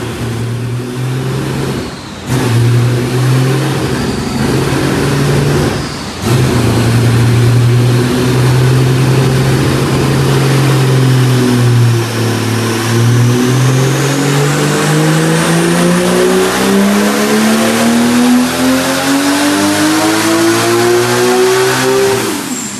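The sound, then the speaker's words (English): A loud race car engine, a 935, revs hard on a dyno, holding a steady roar with brief drops before climbing through rising pitch sweeps as it is pushed higher, with no voices over it. “The scariest part about a race car is the dyno. You can't stand in that room while you're doing it. It's so loud.”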